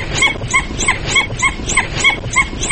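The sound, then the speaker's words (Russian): A dhole (red wolf) gives a rapid series of about nine short, whistling yelps in a steady rhythm. Each call carries two distinct main frequencies at once, clear over a noisy background. “Это не уникально для красного волка. С двумя основными частотами кричат и домашние собаки”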